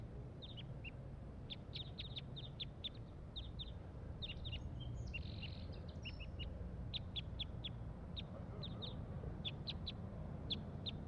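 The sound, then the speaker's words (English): A single wild crossbill, up in the top of a pine tree, gives sharp, high chipping calls, single notes and quick pairs repeated irregularly for the whole stretch, over a steady low rumbling background with no talking. “Recording, there is one wild crossbill here up in the top of this pine tree, and this is it giving calls, pointed at the wild bird.”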